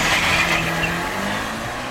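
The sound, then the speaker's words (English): A car engine roars steadily, its low droning tones shifting slightly in pitch as the vehicle drives, with broad noisy rumble throughout and no voices. “Lark kicked Magnus and his sofa to the curb and roared up.”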